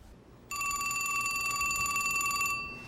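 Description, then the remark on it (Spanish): A telephone rings with one continuous trilling burst, bright and metallic, lasting about two seconds before cutting off. It is fairly loud over a quiet background with no voices. “Carlin condujo 2 horas al teléfono más cercano para alertar al Departamento de Caza y Pesca.”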